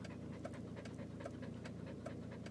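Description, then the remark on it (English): A stressed dog pants rapidly and steadily, quick rhythmic breaths repeating throughout with no other sounds or voices. “Meanwhile, the poor dog's getting more stressed out by the minute, and so am I.”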